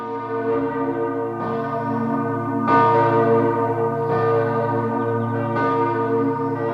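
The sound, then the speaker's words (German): A large cast bronze church bell rings out repeatedly, each loud strike about every one and a half seconds, its deep humming tones and overtones sustaining and overlapping without any voices. “Er prüft vor allem, ob die Glocke genügend Nachhall hat und ob die Töne sitzen.”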